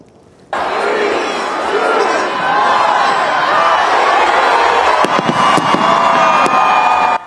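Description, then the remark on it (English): A large crowd of tens of thousands roars and cheers steadily on Fayetteville Street in downtown Raleigh as the acorn drop rings in 2024 at midnight at WRAL's First Night Raleigh celebration, and a few sharp firework bangs crack out over the din toward the end. “Yeah, that was the iconic acorn drop ringing in 2024 right at midnight.”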